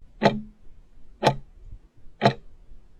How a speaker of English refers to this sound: The clock is ticking.